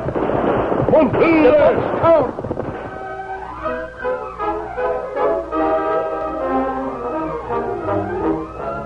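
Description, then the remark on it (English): A rapid burst of gunfire with whining ricochets, as outlaws open fire on people escaping across a valley, fills the first two seconds, then gives way to a swelling orchestral music cue. “The outlaws had discovered they were trying to escape. They opened fire.”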